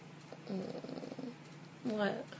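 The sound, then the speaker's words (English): A person makes a low, throaty purring sound in two soft bursts, one longer and one short, with a voice imitating a cat's purr. “You're purring.”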